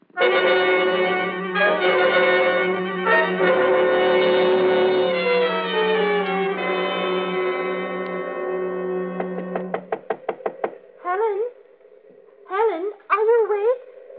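A quick run of sharp knocks on a bedroom door at night, about seven or eight rapid raps, sounding briefly over a sustained droning tone that then gives way to wavering, whining notes.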